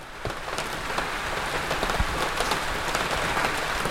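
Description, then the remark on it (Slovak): Rain starts to fall, pattering steadily on a hard surface, with many crisp drops tapping irregularly over a soft, constant hiss, and no voices. “Čo si na mňa kveplo? A kakao to veru nebude. Začína pršať.”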